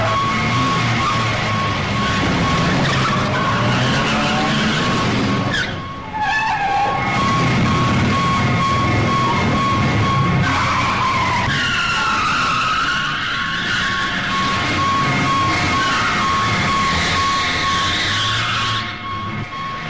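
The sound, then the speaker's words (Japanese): Loud car tires screech and skid almost continuously, with engines roaring and revving, a brief lull midway before the squealing resumes, as a department store employee drives a car carrying a bomb toward a safe area and is chased. “東部デパート店員の山口は爆弾を抱えて車で安全地帯へと走り始めた。俺たちはそれを追って山口を追跡したのであった。”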